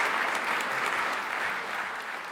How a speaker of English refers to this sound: Isn't it good to have people and applause?